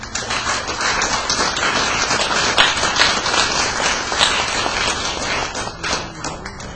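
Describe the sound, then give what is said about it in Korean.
A crowd claps steadily for several seconds, a dense wash of many hands with sharp individual claps standing out, loud and sustained throughout with no voices, welcoming a church deaconess who is to speak about her family's hardships. “우리 박수 환영합니다.”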